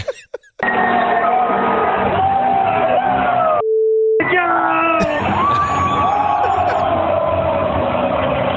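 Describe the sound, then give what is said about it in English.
Loud, excited celebratory yelling by a man celebrating the Rangers' overtime goal as they advanced, over crowd noise, cut off partway through by a steady, mid-pitched censor bleep covering his swearing, lasting about half a second before the shouting resumes. “I mean, that's the limited amount we can play for you without it just being continuous beeps.”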